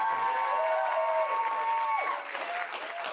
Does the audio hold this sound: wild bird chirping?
no